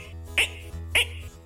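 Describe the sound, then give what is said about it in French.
A voice imitates frogs croaking, making two short, raspy bursts about half a second apart over a low, steady hum. “Et même de temps à autre, on entend certaines grenouilles qui font.”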